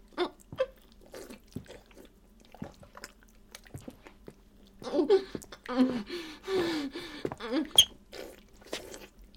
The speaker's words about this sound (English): Let them listen to your mother gulp it all down.